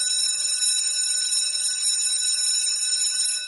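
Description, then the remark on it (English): A bright, shimmering bell rings continuously for a few seconds, its high metallic tones sustained and steady at a fairly loud level, with no voices present. “And with the bell, that signals the end of our program.”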